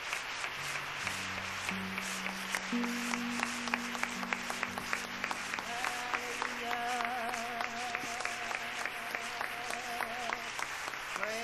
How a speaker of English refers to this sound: Let's stand our feet and give God a hand clap as they return to their seats.